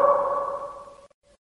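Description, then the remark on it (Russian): A shouted call in a long fortress cellar rings out as a long, hollow, tonal echo that fades over about a second, followed by a couple of faint, brief repeats. “Эхо возвратило обратно призыв друга.”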